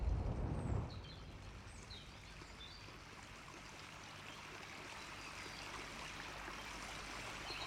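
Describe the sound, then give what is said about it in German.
A small brook babbles and trickles steadily at a moderate distance, a continuous soft rush of flowing water with faint bird chirps above it and a brief low rumble at the start. “Du hörst ein leises Plätschern, wie ein kleiner Fluss, ein Bach, in einiger Entfernung.”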